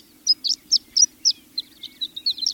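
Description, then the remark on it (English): A high, tinkling song of a male horned lark hovering on fluttering wings in a large circle 100 feet above the ground: a few spaced chirps speeding into a rapid, jumbled twitter, bright and fairly faint over a low steady hum. “The song is coming from above, as a male horned lark hovers on fluttering wings, describing a large circle 100 feet above the ground.”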